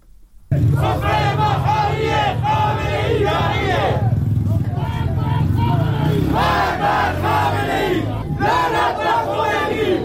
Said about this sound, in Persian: معترضان پس از سخنرانی مولوی عبدالحمید بار دیگر در خیابان‌ها شعار سر دادند.